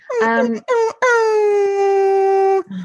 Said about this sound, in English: Yeah, the dog just making that silly noise.